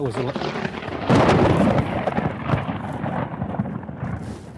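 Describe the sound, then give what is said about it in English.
A nearby lightning strike cracks in suddenly after a second of rushing rain-like noise, followed by a loud, broad thunder roar that rolls on and slowly fades. “That hit me. Lightning bolt. Lightning just zipped me.”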